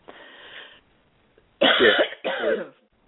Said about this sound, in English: I'm sorry, I'm still coughing so bad.